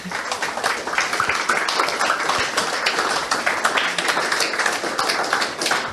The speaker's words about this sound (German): Vielen Dank euch. Ganz großen Applaus nochmal.